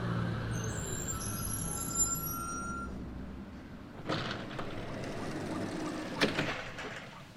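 An early-morning bus running to a train station rumbles low and steady, then slows with a hiss of air brakes and the clatter of doors opening, followed by another sharp hiss. No one speaks.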